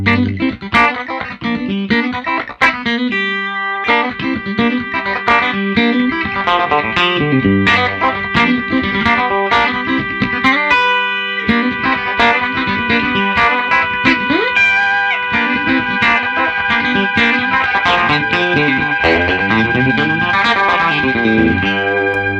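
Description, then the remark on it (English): Guitar played through a Game Changer Audio Plus sustain effects pedal: held notes ring on and stack into a droning, shimmering wash while new picked notes and chords are layered on top, loud and steady, with no talking. “So this is the Game Changer Audio Plus.”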